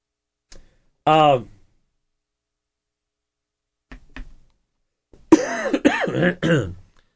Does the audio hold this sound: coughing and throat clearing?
yes